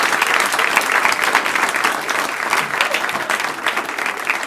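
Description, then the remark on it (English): Sustained audience applause for Matt Kirschen, a dense crackle of many hands clapping at a steady, fairly loud level with no pauses, filling the whole stretch without any voices. “Keep it going for Matt Kirschen.”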